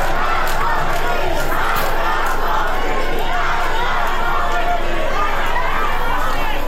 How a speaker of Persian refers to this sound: همزمان معترضان در کرمانشاه شعارهای علیه رهبر جمهوری اسلامی هم سر دادند.